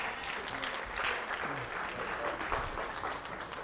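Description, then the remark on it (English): A crowd applauds steadily, a dense wash of clapping hands that holds at an even level for a few seconds, with faint voices mixed in underneath. “Give another round of applause, everyone.”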